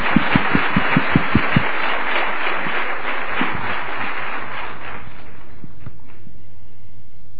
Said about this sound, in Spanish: Vamos a darle un aplauso, ¿qué les parece? Muchas gracias, muchas gracias.